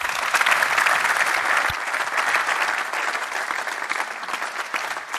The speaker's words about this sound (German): Gebt euch mal selbst einen dicken Applaus für.